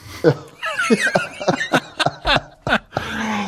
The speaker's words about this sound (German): Ich muss immer husten.